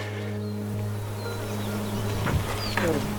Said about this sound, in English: Bees. Look at that. They're just everywhere. This is sage. These little purple flowers.